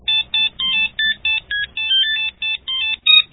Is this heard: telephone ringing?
yes